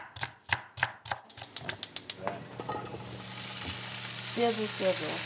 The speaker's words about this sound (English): After several hours of chopping, browning, boiling, and simmering, and being tortured by the incredible smell, we finally got to the most important test, the taste test.